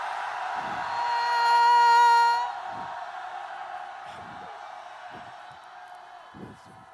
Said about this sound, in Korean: 자 우리 아직도 억울하게 편하게 가실 수 없는 님들에게 힘있게 정말 발끝부터 올라오는 약속의 의미를 담아 함성 멋있게 날려드립시다. 준비됐습니까? 함성 시작!